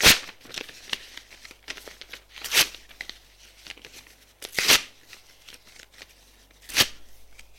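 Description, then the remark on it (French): A woman tears up a page she has torn from her diary and written a book title on in block letters. Paper rips in several sharp bursts, four louder ones spaced a couple of seconds apart, with softer crinkling rustles between them and no voices. “Puis, elle déchire le papier.”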